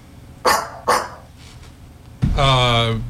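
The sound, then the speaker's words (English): Someone mimics a dog with their voice: two short, sharp barks in quick succession, a brief pause, then a longer, drawn-out throaty bark, all fairly loud. “What makes that sound? Is it A dog.”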